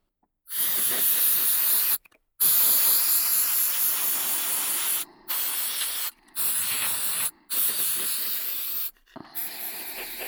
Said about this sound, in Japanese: ですが、こちらのスプレーは前のよりも希釈度が高い薄いものを使ってます。